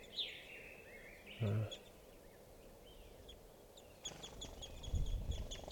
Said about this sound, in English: I'm right underneath the tree that a bunch of crossbills are in, and they're coming down for water. And I'm right next to some birds now, and they're in a small tree.